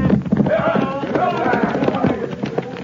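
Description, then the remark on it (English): A rapid, rumbling drumming of hooves from several horses ridden by a sheriff and his posse galloping by, loud and steady throughout, with indistinct voices mixed into the commotion. “The sheriff and his posse are coming.”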